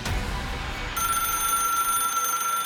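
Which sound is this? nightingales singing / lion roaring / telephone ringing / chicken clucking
telephone ringing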